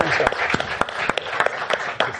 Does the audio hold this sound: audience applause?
yes